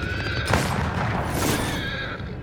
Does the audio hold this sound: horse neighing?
yes